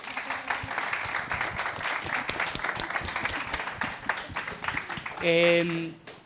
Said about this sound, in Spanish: ¿Les pueden dar un aplauso, por favor?